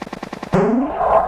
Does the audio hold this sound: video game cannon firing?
yes